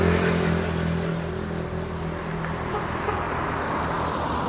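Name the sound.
car engine revving nearby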